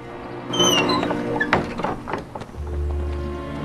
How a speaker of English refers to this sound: As he walks past a barn, the door creaks open.